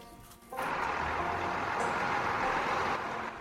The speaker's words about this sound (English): Outside, the refuse truck has arrived, and Linda hears its engine.